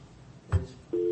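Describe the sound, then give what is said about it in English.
A brief low thump, then a telephone ringing tone starts: a steady, moderately loud electronic hum that holds unbroken to the end, with no voices. “I bet that's him calling me back.”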